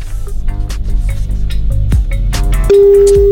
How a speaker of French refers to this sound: On est à la cinquième sonnerie.